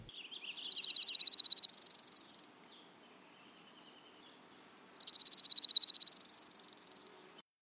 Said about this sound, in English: I know, that lovely trill, isn't it? Lovely trill, the Orange Crown Warbler. It has that sassy little inflection, where you get that.